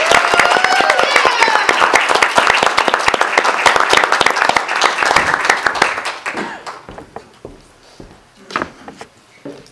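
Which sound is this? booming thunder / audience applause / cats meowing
audience applause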